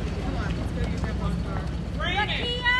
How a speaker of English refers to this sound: Teachers distribute kindergartners one by one to the line of cars waiting outside.